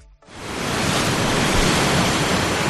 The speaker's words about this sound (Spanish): En la costa lo que toca es el rugido del Cantábrico en San Lorenzo. Olas de más de 9 metros en Gijón. La boya ha detectado una de 9,27.